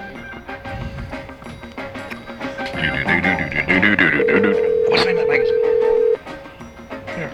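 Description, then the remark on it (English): A telephone call being placed, with a steady electronic ring tone holding for about two seconds near the end, loud over a busy background of voices and other sounds. “We're going to call the Truck and Bozo now and congratulate him on his success. Hello, Bozo phone.”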